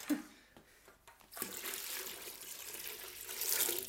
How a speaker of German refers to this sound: So, jetzt kommt Wasser. Da war ein bisschen Wasser auf dem Herd. Ein bisschen. Ist nicht mehr recht warm.